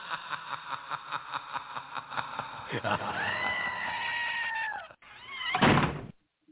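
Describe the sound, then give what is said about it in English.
A steady series of rhythmic thumps gives way to a loud, drawn-out scream from a goat that had a door slammed on it, followed by a short, harsh second cry before the sound cuts off abruptly. “Somebody slammed the door on the goat.”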